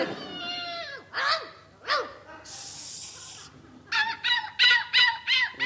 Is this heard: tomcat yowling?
yes